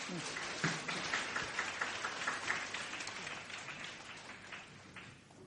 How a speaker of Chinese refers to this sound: 好，我哋俾啲掌声佢哋。